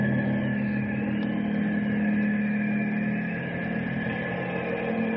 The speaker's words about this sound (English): It is a plane. It sounds like it's coming right over us.